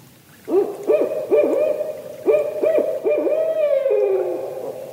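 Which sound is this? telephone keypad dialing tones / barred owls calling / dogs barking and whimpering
barred owls calling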